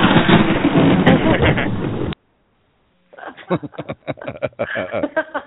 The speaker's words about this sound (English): Not a very good Thunder, was it? Let's try another one.